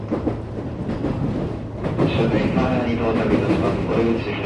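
An out-of-service train that passengers cannot board rumbles steadily into a station in Japan, wheels clattering over the rails, with a rising motor whine and tonal brake hum building over the last few seconds.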